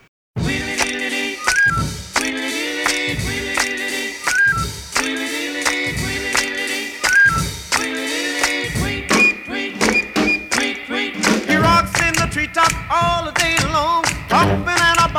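A recorded rock and roll song plays loudly and steadily, with a driving beat, punchy rhythmic accents and bright, sustained melodic lines over full instrumentation.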